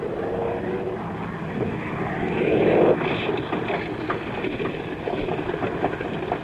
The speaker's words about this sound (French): À peine au sol, l'avion commence à flamber.